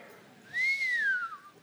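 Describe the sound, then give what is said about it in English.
A single sharp whistle through the teeth, shrill and breathy, holding a steady high pitch for under a second before sliding slightly downward and fading, with no talking around it. “I whistled through my tea.”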